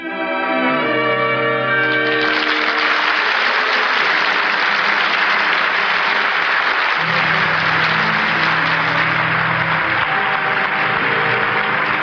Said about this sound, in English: I'm sure our radio listeners join the audience in the theater tonight applauding the performance of Irene Dunne and the rest of tonight's cast on the Cavalcade of America.